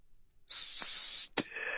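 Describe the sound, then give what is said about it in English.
A burst of harsh, bright radio static hisses steadily for over a second, cut briefly by a crackling break before the noisy hiss resumes, slightly altered in tone. “Alive, hisses the radio.”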